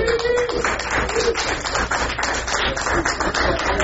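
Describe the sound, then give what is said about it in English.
A crowd at a Bash Shell Scripting for Newbies session applauds the people who provided food. The applause is steady for about four seconds, a dense, even patter of many hands clapping at a fairly loud level, with a few faint cheers mixed in. “That should be rigorous applause.”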